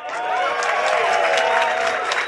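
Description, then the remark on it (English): A crowd applauds and cheers loudly and steadily, a dense wash of clapping with voices whooping over it, sustained for a couple of seconds without a break. “We've left a short gap in the recording of this intro to allow for applause.”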